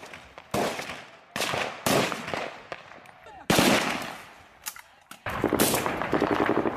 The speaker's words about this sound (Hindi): अफगानिस्तान पाकिस्तान की सीमा से मिल रही खबरों के मुताबिक सीमा पर दोनों ओर से हुई गोलीबारी में पाकिस्तान के कम से कम 9 नागरिक मारे गए हैं और 30 से अधिक लोग घायल हुए हैं। गोलीबारी की आवाज़ चमन सीमा के दोनों ओर सुनाई दे रही थी।